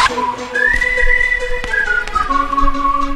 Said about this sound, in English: whistle, baby.